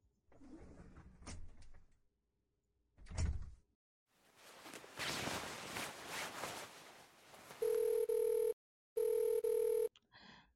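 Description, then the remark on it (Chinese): A phone rings twice near the end, loud, steady electronic tones in two bursts with a short gap, following a stretch of door clatter and rustling noise. No one speaks. “电话，偏在这个时候，我衣服都脱干净了。”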